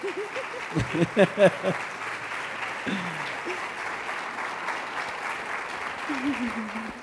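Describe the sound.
An audience at a morning church service applauds in a steady, sustained wash of clapping that lasts throughout, with a few voices speaking and calling out over it near the start and again at the end.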